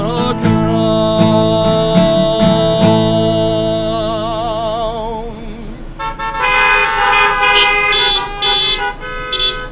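Car horns blare loudly and continuously, several overlapping honks with a wavering, pulsing pitch, then a fresh burst of horns from about six seconds on, with no voices.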